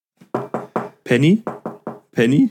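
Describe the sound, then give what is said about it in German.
A voice imitates knocking on a hard surface: three short, evenly spaced knock sounds followed by a longer drawn-out vocal call, then the same pattern again, clear. “Und wenn es nur ein Gegenschnipsen ist oder sonst irgendwas, du läufst und dann klopfst du irgendwo gegen oder so, sowas.”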